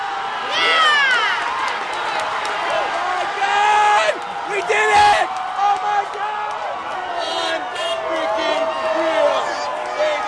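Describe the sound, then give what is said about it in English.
A large crowd in a bar cheers and whoops loudly and without pause for about ten seconds as the Red Sox win the World Series, a dense mass of overlapping shouting voices celebrating, with occasional higher yells rising above the din. “The crowd spills out onto the street.”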